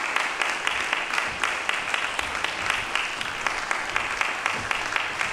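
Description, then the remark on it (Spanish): An audience applauds steadily to welcome the Trío Victoria ensemble onto the stage, many hands clapping in a dense, sustained patter at an even loudness throughout, with no voices standing out above it. “Pero primero vamos a recibir con un fuerte aplauso al trío Victoria.”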